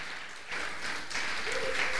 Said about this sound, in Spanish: Aleluya, denle otro aplauso al Rey de Gloria.